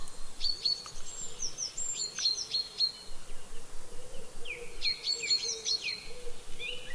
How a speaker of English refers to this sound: All around you are the birds, singing, twittering and chirruping. Can you see any of them? What sort are they?